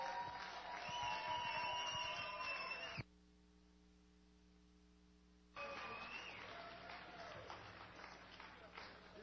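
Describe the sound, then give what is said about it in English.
Loud crowd clapping and cheering with shouting voices, cut off abruptly for a couple of seconds of low electrical hum, then resuming just as loud. “Clap your hands, make some noise!”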